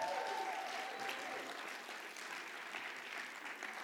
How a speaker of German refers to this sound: Geben wir ihm einen herzlichen Applaus.